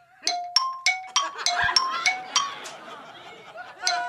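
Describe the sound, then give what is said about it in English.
A default phone ringtone plays: a bouncy run of quick, bright xylophone-like notes, steady and rhythmic, with a faint murmur of voices and laughter underneath. “So we're going to hear what you're rocking with in your real life when someone calls you on the phone.”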